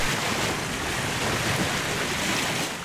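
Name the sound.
sea waves and wind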